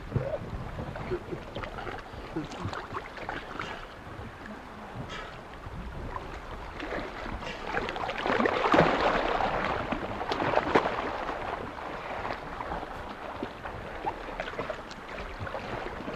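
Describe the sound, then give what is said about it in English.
Water sloshing and splashing around a small rowing boat as an oar dips in, with irregular strokes over steady wind and lapping water, no voices. “He's just sitting there, and every time I push the oar close to him, he opens his mouth.”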